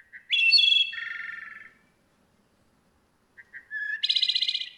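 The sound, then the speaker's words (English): Two clear, flute-like phrases of wood thrush song, each opening with soft notes and ending in a buzzy trill, separated by a short silent pause. Alone. “We can help wood thrushes and forest birds everywhere by conserving and restoring woodlands throughout the Americas.”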